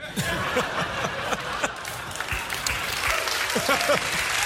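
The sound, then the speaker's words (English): An audience claps steadily in a dense, sustained wash of applause, with scattered chuckles and a few faint voices mixed in throughout. “That didn't deserve an applause break, I don't think.”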